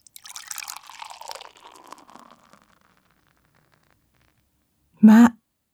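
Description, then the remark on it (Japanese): Beer pours into a glass with a fizzy, gurgling hiss for about two seconds, fading out. After a few seconds of silence comes a short, loud tonal burst. “まあまあお客様、ビールでも一杯いかがですか？”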